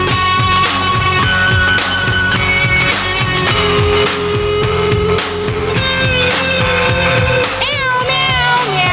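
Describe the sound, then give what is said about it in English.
A loud, upbeat song built from cat meows, with sliding mewing tones riding over a steady thumping beat and dense backing music throughout, with no talking. “So we're meowing along here on the Freedom Fiends”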